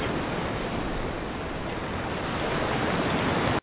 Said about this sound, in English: Ah, the ocean.